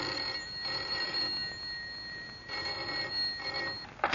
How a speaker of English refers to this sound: Yet the trouble first appeared as the commonplace ringing of a telephone.